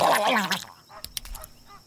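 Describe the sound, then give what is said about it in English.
A flamingo gives a burst of loud, nasal honking calls, then falls quiet except for a few faint clicks and squawks. “If you don't like sweaty humans, an animal that you certainly wouldn't want to hang around with is a flamingo.”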